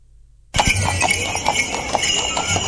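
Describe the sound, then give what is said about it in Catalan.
Horse hooves clop steadily on a hard street surface during the Sant Antoni Abat parade of horses and carriages in Sabadell, Spain, with more than a hundred carts and riders, a regular rhythm of clear strikes with a busy outdoor background, after a brief quiet start. “Enguany, com que és un any parell, la Colla Nova era l'encarregada d'obrir la passejada de cavalls i carruatges pels carrers de Sabadell.”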